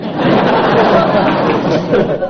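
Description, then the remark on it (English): A steady, dense patter of applause from a crowd, a busy crackling wash of many hands that holds at an even level throughout, with a faint murmur of voices mixed in. “A spatter of applause puts you in the lead.”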